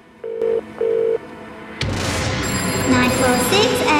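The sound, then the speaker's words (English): A telephone rings twice in quick succession during a call made from a flat, a thin electronic double burst like a line ringing through a handset, followed by louder, busier background sound. “is on the phone, holding the piece of paper.”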